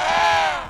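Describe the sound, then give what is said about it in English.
A single harsh, nasal call of an Antarctic penguin, loud and rich in buzzy overtones, held for under a second with a slight downward slide in pitch. “The penguin.”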